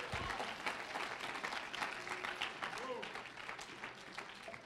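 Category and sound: crowd, audience clapping hands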